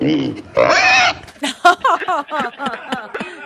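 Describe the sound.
A loud, raspy pig squeal and grunt bursts out for about half a second, followed by quick animated talking that fills the rest of the moment.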